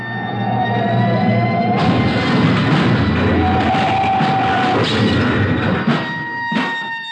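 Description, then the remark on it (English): A speeding semi truck, its trailer whipping, goes over into a storefront: a loud, sustained roar of scraping, crunching noise builds suddenly and ends in a sharp impact, with a siren-like horn wail running throughout. “Look at that trailer whip. They're going over. Into that storefront.”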